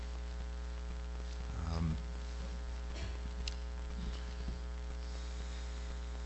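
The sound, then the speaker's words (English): A steady electrical hum of air conditioning being turned on drones through the whole stretch, with a brief low rumble near the start and faint scattered ticks, no voices. “Yes, that's a nod to turn on the air conditioning.”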